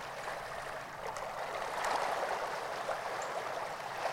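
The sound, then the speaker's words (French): Gently flowing river water in a forest at night babbles steadily throughout, a soft continuous trickle and murmur with small splashing accents, moderate in level, with no voices. “Le murmure apaisant de l'eau qui coule et la mélodie nocturne de la vie forestière.”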